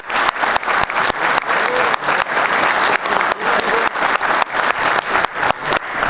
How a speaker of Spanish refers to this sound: Uno de los líderes de este proyecto, le pido un fuerte aplauso al presidente de INAC, Conrado Farra.